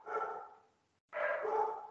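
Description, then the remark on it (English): A dog barks twice, two fairly long, full-throated woofs separated by a brief pause, with no talking over them. “And the dog greets.”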